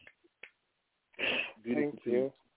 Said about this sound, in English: We can yes, snap and clap.